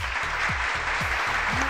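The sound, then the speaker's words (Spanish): Steady, dense applause fills the whole stretch, a continuous crackle of many hands clapping, with a low, repeating hum-like pulse running underneath and no voices. “Así que aplausos para ahí igual.”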